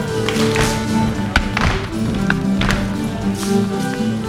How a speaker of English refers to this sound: The room is filled with stomping and clapping as dancers swing their partners around.